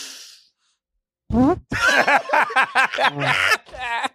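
A short burst of hiss, a pause, then a voice blurting out a sputtering, buzzy run of pitched bursts that imitates a fart noise, wobbling up and down for a few seconds.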